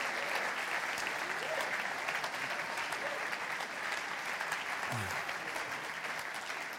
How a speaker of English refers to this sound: You are really welcome. In fact, can we applaud and welcome people who've come here from other locations?